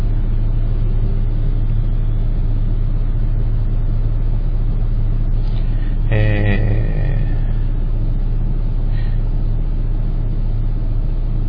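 Steady low rumble of road traffic outdoors at a convenience store with a large parking lot along a main road near a downtown area, engines droning continuously and a brief, sharper burst of a passing vehicle midway; no one speaks.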